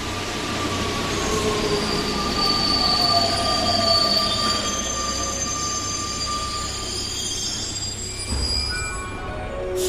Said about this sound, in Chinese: 这在瑞勒舍夫汉地铁站。好了，这是十二线。